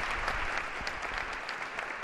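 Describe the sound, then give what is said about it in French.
Steady, sustained applause from a group of cardinals as Pope Benedict XVI embraces his successor, a dense continuous patter of many hands clapping at an even level throughout, with no voices standing out. “Une accolade chaleureuse entre frères sous les applaudissements nourris des cardinaux.”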